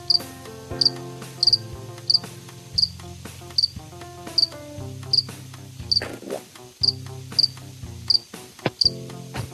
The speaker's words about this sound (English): Is there a cricket in the house?